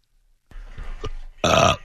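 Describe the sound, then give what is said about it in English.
A low, rumbling burp comes in after a moment of silence, rising into a loud, drawn-out belch with a strong tonal growl near the end, made while clearing the throat before a read. No one speaks. “I got burped, but he left my mic on.”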